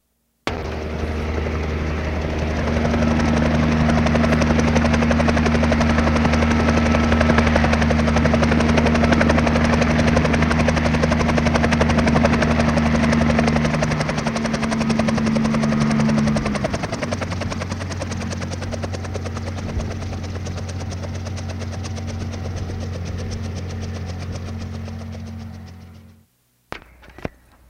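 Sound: helicopter arriving and landing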